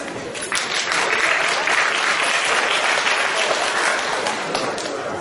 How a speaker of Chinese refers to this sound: 感谢您的掌声鼓励啊！